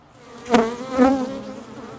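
A steady hum of honeybees at the hive, which the beekeeper has been feeding sugar syrup, a low droning buzz with two brief swells of louder buzzing as bees fly past, with no talking.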